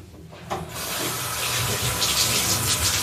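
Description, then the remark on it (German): Warm water gushes steadily through a hose into a basin in a bathroom, rinsing a brush under the running water, a broad hissing splash that starts after a brief pause and continues loud without letting up. “Also, werde jetzt Wasser, einfach warmes Wasser durch den Schlauch.”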